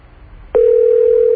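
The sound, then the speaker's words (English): A click as a phone line opens for a call to a movie-listings service number, then a steady, loud telephone dial tone hums continuously without interruption to the end, with no voices. “but somebody called up and suggested a better number to call, and it's a non-dial-it service number, but it tells you where all the films are playing.”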